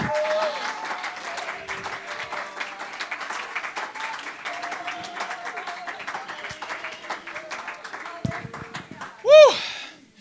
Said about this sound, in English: Praise God. Oh, let's clap our hands unto the Lord today.